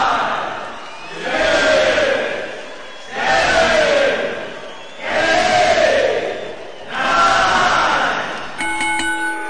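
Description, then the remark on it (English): A large wrestling crowd at a pay-per-view boos in four loud, rhythmic surges after the first match ends in a triple countout. Each surge swells and fades in a low, drawn-out jeer with brief lulls between, followed by a short electronic tone at the very end. “And listen to these fans boo.”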